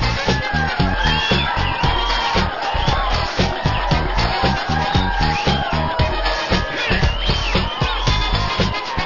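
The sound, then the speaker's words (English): A large audience claps steadily and enthusiastically for several seconds, dense applause mixed with scattered cheers and whoops, loud and continuous throughout, in the introduction of The Martin Bender Band Chair Show on WBRI 1500 in Indianapolis. “I love those people when they clap for us.”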